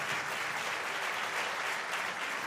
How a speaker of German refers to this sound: Bisher hat der Mann mit dem Alkohol und deine Mutter, die haben beide mehr Applaus bekommen als wir am Anfang.